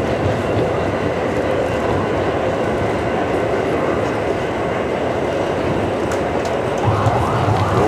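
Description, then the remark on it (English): A steady, loud rumble of a train running along the rails, heard from inside a carriage, with continuous low roar and faint rhythmic rattling throughout, no talking. “So we were on the train.”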